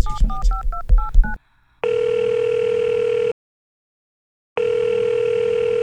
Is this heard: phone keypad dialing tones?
yes